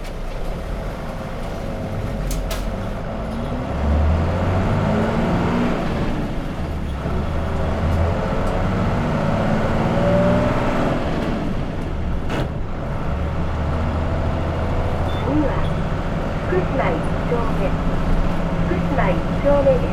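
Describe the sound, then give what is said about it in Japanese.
A bus engine rumbles steadily as the bus pulls away after its doors close, a loud, low drone with a few sharp clanks and rattles, and faint indistinct voices in the background. The bus is bound for Nankai Ferry via Hatacho Okinotsu Elementary School. “ドアが閉まります。ご注意ください。発車します。”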